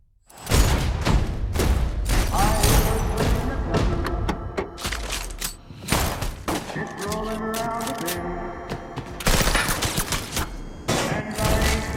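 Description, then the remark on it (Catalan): A rapid exchange of gunfire from a film trailer, with many sharp, loud shots and bursts, heavy thuds and booms among them, continuing densely over a tense dramatic backdrop. “Ja veus una miqueta per on va, intercanvi de trets i ja sabem qui guanya.”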